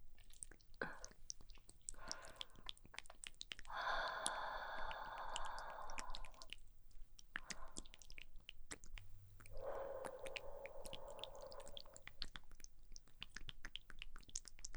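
Soft breaths blown right at the listener: a few short puffs, then two long, airy exhalations several seconds apart, hushed and intimate with no speech.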